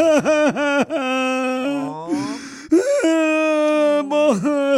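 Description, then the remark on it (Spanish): A man's voice mimics the exaggerated sobbing of a man crying in a cantina, with wavering, drawn-out wails and quick catching breaths, loud, lasting several seconds with no speech. “Estaban en la cantina unos compadres y uno estaba llorando.”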